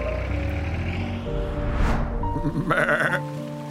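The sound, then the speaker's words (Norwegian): Goats bleat in a wavering, quavering cry that rises near the end, over a steady low engine rumble, with no talking. “Jeg har kjøpt ny geitemat. De kommer til å bli så glad når jeg kommer med dette her.”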